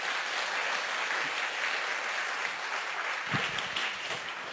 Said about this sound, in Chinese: 阿们，拍手把荣耀归给主，好不好？